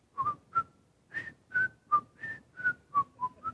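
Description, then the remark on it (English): Someone whistles a bright, bouncy tune, a quick run of about a dozen short, clear notes hopping up and down in a steady, jaunty rhythm with no talking. “When people have joy in their hearts, it produces music, right? You hear people whistling?”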